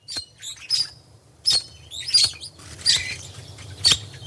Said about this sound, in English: Its song might sound pretty enough, but straight from the mouth of Australia's red-rumped parrot comes a dire warning to all the inhabitants of this planet, humans included.